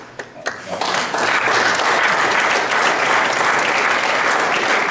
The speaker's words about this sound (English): In a video from a March 2013 Cumberland County Lincoln Day event, a Republican audience applauded the notion.